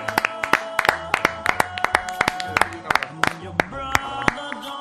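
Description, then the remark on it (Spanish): An audience claps in an uneven, scattered patter of sharp hand claps that runs steadily for several seconds, with voices murmuring and calling out underneath, after a shirt signed by all the Ponfe football players is presented. “Pero bueno, un aplauso, por favor.”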